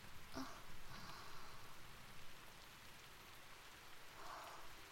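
rain falling

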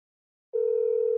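phone call ringing tone

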